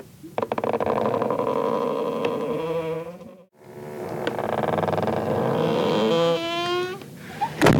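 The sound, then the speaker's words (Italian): Heavy cell doors grind open and shut in two long, loud metallic creaks with wavering, groaning tones, separated by a brief pause, then a sharp clack at the end like a key turning. “gabbie che s'aprono e poi si richiudono, giro di chiavi”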